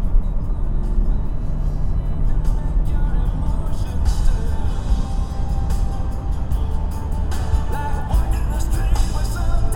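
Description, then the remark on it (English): A little red sports car pulls away from a green light on a sunny day, its engine droning steadily for the whole stretch, a dense low rumble with road noise and occasional brief surges, fairly loud without any clear pauses. “should all be so lucky to be driving around a little red sports car on a nice sunny day.”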